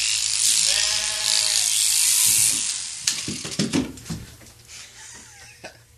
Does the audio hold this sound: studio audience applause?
no